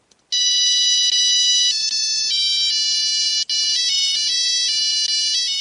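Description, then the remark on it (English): A bright electronic melody beeps out from a musical egg timer signalling that boiled eggs are done, steady high-pitched tones stepping through a tune with one brief break, loud and alone with no talking. “Just a fun way, again, you know, of course we all know how to boil eggs, but just a fun way to know when your eggs are done.”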